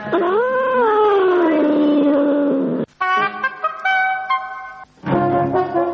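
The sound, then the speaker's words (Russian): A cat yowls loudly: a long, wavering wail, then a brief pause before more strained, higher-pitched cries, ending with another drawn-out howl. No one speaks. “Все, ты свободен, кот.”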